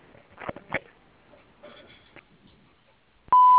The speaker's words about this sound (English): you've reached Capitelli's. We are unable to take your call at this time, but if you kindly leave your name, number, and a brief message, we'll be glad to return your call as soon as possible. Thank you, and wait for the beep.